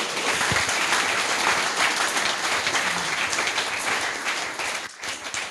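Steady applause from an audience thanking someone for providing the internet, a dense rush of many hands clapping at even loudness for about five seconds, then breaking off abruptly.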